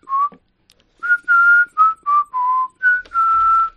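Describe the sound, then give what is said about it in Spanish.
Someone whistles a jaunty, march-like tune, the one from the film The Bridge on the River Kwai: about seven clear, bright notes, some short and clipped, others held longer, with brief pauses between phrases and no talking. “Sílvala. Venga. No, que si no me sale la otra vez, la del río Kwai.”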